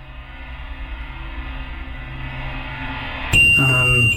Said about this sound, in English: And the REM pod thing had been beeping a little bit, beep, beep, beep. And it's when I said that it started going like all tone.